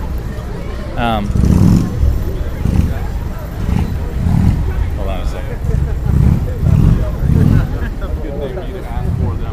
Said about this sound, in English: but what the hell is that music? You know, the come on, jeez. I guess the music was coming from the motorcycle. What a noisy person. The motorcycle was playing weird music.